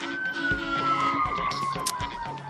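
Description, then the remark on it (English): A police car siren wails steadily as it passes, its pitch slowly sliding downward as it moves away, fairly loud over a busy background of street noise. “I'll just let the sirens go by here.”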